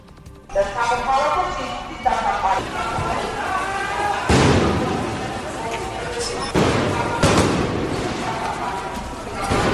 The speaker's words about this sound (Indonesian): Para pengunjuk rasa berkumpul di luar gedung Parlemen Georgia pada Minggu malam, membakar tempat sampah dan menembakkan kembang api ke arah polisi di Tbilisi.